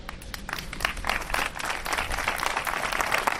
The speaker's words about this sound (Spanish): En la plaza del ayuntamiento ha habido una concentración donde se han guardado 5 minutos de silencio, que concluían con una sonora ovación.